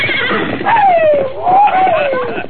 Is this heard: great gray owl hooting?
no